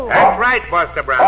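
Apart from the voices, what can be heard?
dog barking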